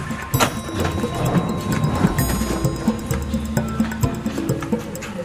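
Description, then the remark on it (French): Keys turning in door locks in a closed psychiatric unit in Créteil, where entering and leaving each unit takes at least 40 key turns: a steady run of metallic clicks and ratcheting clatter, fairly loud and continuous for several seconds, with no voices. “Il y a beaucoup de portes, donc ça, je quand on fait les visites, on est en garde, j'ai écouté une fois, c'est au moins 40 tours de clé pour entrer et sortir de chaque unité, s'il y a 2 portes.”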